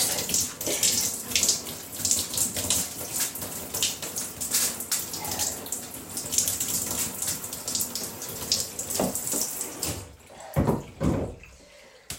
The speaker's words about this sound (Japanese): ちょっとシャワーだけいいですかね。すいません、ちょっとうるさくなっちゃうんですけど。